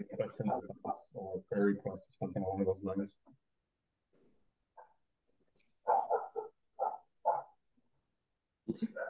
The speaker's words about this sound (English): Dogs barking in the background, whatever. It's fine. I guess it's our neighbor's dog.